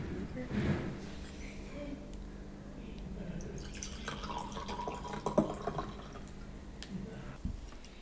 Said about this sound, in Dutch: Het is mousserend gemaakt, dus er is CO2 aan toegevoegd. En daardoor is het een lichte mousserende wijn geworden. En ja, vooral heel fruitig, fris. Zal jullie een glaasje inschenken.